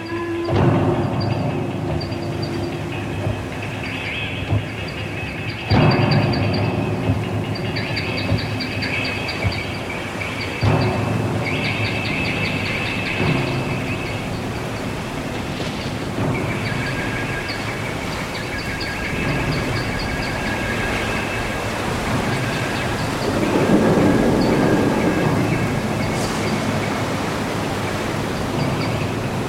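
storm at sea

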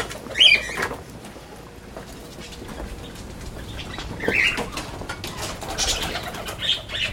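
parakeets chirping

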